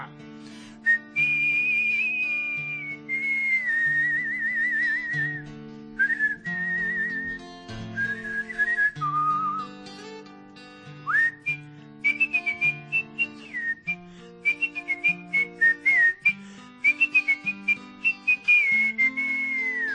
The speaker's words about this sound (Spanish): silba como si fuera el mundo del oeste.